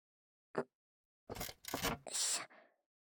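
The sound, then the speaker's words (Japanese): A sharp knock, then a chair scrapes and drags across the floor of an empty school classroom in several rough bursts as someone sits down beside another person, fairly loud, with no talking. “私も隣に。”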